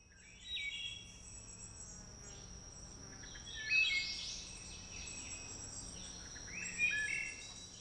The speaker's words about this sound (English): That's a wood thrush, or actually several wood thrushes, singing at Sinking Stream Trail in Hobbs State Park. Folks who stop to listen consider the song flute-like.